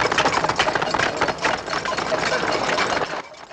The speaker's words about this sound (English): They wrap their cutlery against their metal cups, their eyes fixed on Carrington.